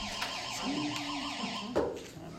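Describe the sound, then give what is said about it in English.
An Active911 emergency paging alert tone sounds as someone is paged out: a steady, warbling electronic beep that rises and falls in pitch in quick repeated cycles, moderately loud, with a brief thump near the end and no talking. “That's like a Ghostbuster signal. That's the only thing that overrides the silence. Active 911?”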